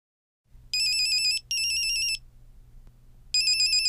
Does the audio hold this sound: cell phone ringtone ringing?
yes